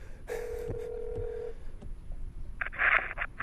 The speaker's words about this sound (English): Oh my God, it's a phone. It's ringing.